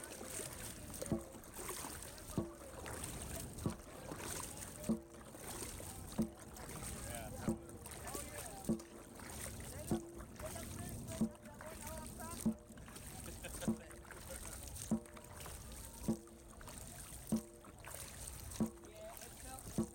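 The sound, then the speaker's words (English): Steady, rhythmic strokes of oars dipping and pulling through water as a rowing crew paddles lightly on command, about one stroke every second, with light splashes and water washing around the rowing boat, faint voices in the background. “Bells up! Light paddle!”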